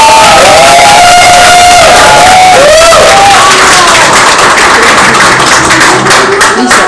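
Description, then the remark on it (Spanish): A loud audience cheers with rising whoops and shouts at first to welcome a guest, giving way to dense, steady applause of many hands clapping that carries on to the end. “Y recibámosla con un súper aplauso.”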